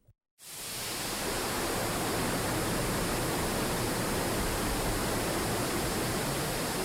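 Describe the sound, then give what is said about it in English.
The rushing waterfall at Frank Lloyd Wright's Falling Water home in southwestern Pennsylvania, heard from The Bridge, roars steadily and loudly, a dense, unbroken wash of water noise that cuts in abruptly after a brief moment of silence and holds constant throughout, with no voices. “So we're at Falling Water on something called The Bridge.”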